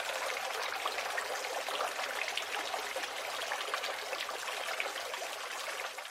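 Steady, continuous bubbling and trickling of a small fountain in a downstairs neighbor's backyard with trees and grass, a dense wash of water noise that stays even in level throughout, with no voices.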